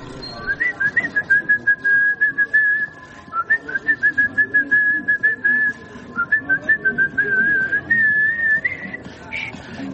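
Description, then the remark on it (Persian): A person whistles a steady, wavering melody while walking, the clear tone hovering mostly on one pitch with brief breaks, over a busy, muffled background of movement. “مقداری در سکوت راه رفتیم تا اینکه شروع کرد به سوت زدن.”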